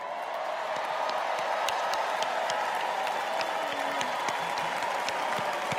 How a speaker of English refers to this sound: Long applause.